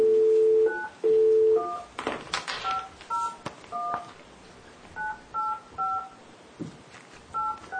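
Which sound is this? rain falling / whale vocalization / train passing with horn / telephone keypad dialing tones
telephone keypad dialing tones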